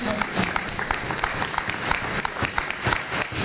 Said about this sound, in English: I think they deserve a round of applause because they represented Barbados.